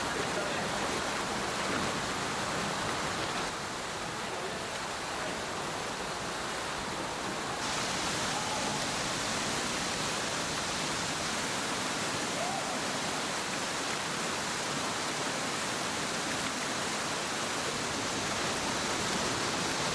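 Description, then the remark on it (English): A steady, dense roar of a fast underground river rushing through a limestone cave, loud and continuous, churning through rock with no breaks in its flow. “A weakness in the rock can allow the river to increase its gradient and flow rate, providing a real challenge for the cave explorers.”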